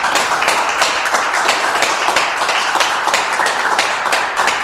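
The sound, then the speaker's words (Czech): An audience of clients in the social room of the chateau in Liblín claps steadily in dense, continuous applause. Many overlapping hand claps stay loud and even throughout, with no voices rising above them. “To, aby jsme vám, posluchačům, dokázali, že tady nejsme sami v té krásné společenské místnosti tady toho zámku v Liblíně, tak já prosím na úvod, kdo tu s námi je, prosím potlesk nebo nějak zavolejte.”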